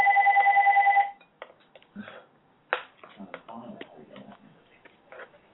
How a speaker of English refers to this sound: Why is my phone ringing? Hold on, guys. Hold on.